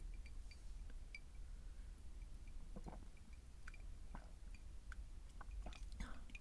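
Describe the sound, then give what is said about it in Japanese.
Someone quietly sips a highball made with lemon, soda and ice, with faint scattered clinks and small wet mouth sounds against a low steady hiss, and no one speaking. “レモン入れて、炭酸入れて、氷入れて。それでは天田玲ちゃん、ありがとう、乾杯。”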